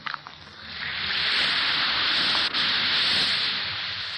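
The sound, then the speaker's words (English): An Alka-Seltzer effervescent antacid tablet fizzes in water: a few small clicks at the start, then a steady, bright crackling hiss that builds and holds, with a momentary break near the middle. No one speaks. “Listen to it fizz.”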